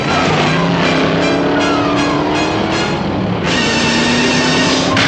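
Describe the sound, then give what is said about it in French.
A heavy truck engine roars loud, revving up with a rising pitch as it pulls away, then shifts gear and keeps accelerating. “Le camion a démarré.”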